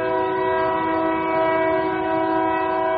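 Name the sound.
train passing with horn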